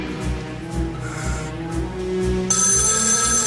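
A telephone rings with a bright, trilling tone over a steady, pulsing musical backdrop. The ringing grows sharper and more prominent toward the end.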